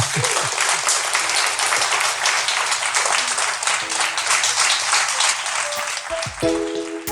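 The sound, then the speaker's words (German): Loud, sustained applause from an audience for a guest, a dense wash of many hands clapping steadily for several seconds, with a brief tonal musical sting emerging near the end. “Bitte großen Applaus für unseren Gast.”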